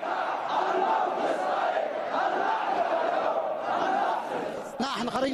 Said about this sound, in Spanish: Son cientos de miles de personas que han inundado las calles de la ciudad de Amran gritando lemas contra el bloqueo saudí-estadounidense.